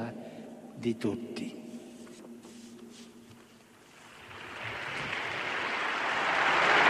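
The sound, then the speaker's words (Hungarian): A voice speaks briefly, then a large crowd in Saint Peter's Square breaks into applause after Pope Francis's message of peace, a dense hissing wash of clapping that swells steadily louder until the end. “Eddig tartott Ferenc pápának a béke üzenete, a békére való felszólítási üzenete, amelyet tapsal viszonoznak a Szentpéter téren jelenlevők”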